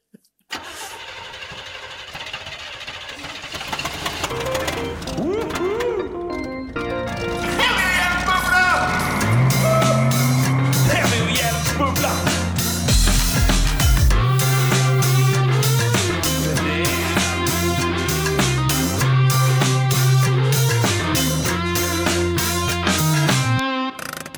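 A loud, busy jingle with a steady pulsing beat and bass line, mixed with revving engine and car sound effects, starting with a quick rising burst and playing on for about twenty seconds.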